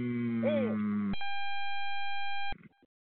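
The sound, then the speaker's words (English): Electronic beeping and squeaking: a warbling, whistly squeal sweeps up and down over a humming buzz, then cuts to a loud, steady high beep tone held for over a second before stopping abruptly. “Damn, we getting frequencies is beeping and squeaking.”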